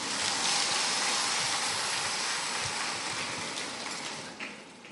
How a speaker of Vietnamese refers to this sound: Vỗ tay, chả thấy ai vỗ gì cả. Ôi trời, thế là không muốn tác hợp cho người ta. Thế thì keo kiệt thế, bùn xỉn thế. Học Phật mà bùn xỉn thế, cho một chàng vỗ tay thật to nữa lên.